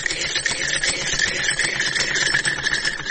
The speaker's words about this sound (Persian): این همین لباسایی را که می بینیم بند است، تمامش توسط از این ماشین دوختیم که از مشتری هست، لوحه بند کردیم در بالای درازه، دیگه همگی میاره لباسای شنه.